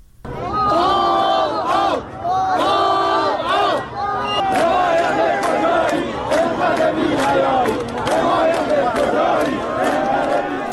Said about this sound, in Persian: مردم معترض روز سه‌شنبه در مقابل استانداری چهارمحال و بختیاری در شهر کرد تجمع کردند و شعار مرگ بر رئیسی سر دادند.